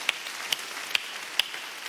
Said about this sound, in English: Come on, let's clap to Jesus for his love.